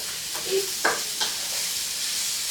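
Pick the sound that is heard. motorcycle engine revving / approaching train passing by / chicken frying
chicken frying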